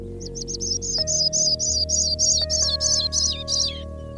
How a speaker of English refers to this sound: And I sat down low in the grass, and it was just one of those perfect June mornings, you know, not too much wind, you could hear forever. And right away, there was this canopy of song over my head, filled with Sprague's pipits primarily